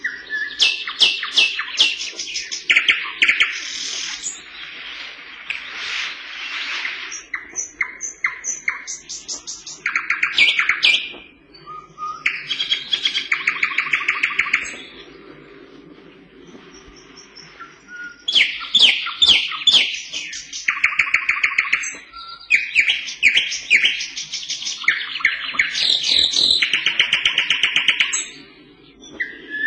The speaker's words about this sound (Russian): И, наконец, восточный соловей. Пение его можно услыхать за километр. Мощное, раскатистое, яркое.